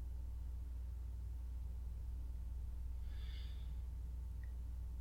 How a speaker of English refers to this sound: She looks over at Kalaira, who still lies, breathing, asleep.